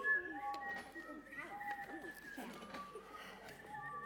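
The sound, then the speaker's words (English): Several people in a church whistle and chirp together in imitation of singing birds, a busy overlapping chorus of warbling tones and cooing voices that carries on steadily throughout at moderate volume. “All of the birds were singing and praising God, and it was very noisy.”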